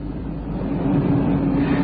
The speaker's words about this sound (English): He was halfway down when he heard the car approach.